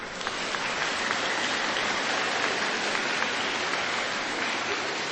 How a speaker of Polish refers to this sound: I teraz siebie nawzajem przywitajcie gorącymi oklaskami.